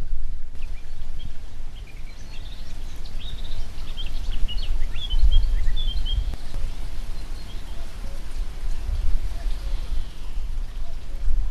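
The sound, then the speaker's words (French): Several kinds of birds sing and chirp faintly from the hedges all around, scattered short calls beneath a steady patter of rain and a low outdoor rumble. “il y a plusieurs types d'oiseaux différents qui sont en train de chanter dans les haies qui sont autour de nous”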